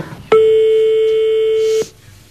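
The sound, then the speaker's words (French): One long, steady electronic telephone ringing tone from a call to a random person picked from the phone directory sounds clearly for about a second and a half, then cuts off abruptly, with no talking and only faint background noise around it. “Mais on appelle des gens au hasard en annuaire.”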